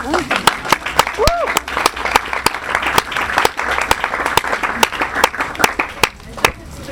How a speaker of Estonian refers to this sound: Aitäh! nüüd toimetud. Aga aplaus teile!